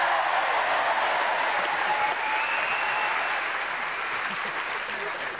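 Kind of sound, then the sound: crowd, audience applause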